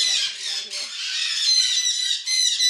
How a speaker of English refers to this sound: The Oasis Sanctuary, run almost entirely on donations. We have 800 birds here. I turn away birds every single day.